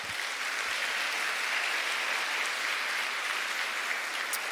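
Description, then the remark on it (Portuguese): An audience applauds after a reading of Psalm 139, a steady, dense wash of clapping that holds an even level throughout, with no voices rising above it. “Pode aplaudir, irmão.”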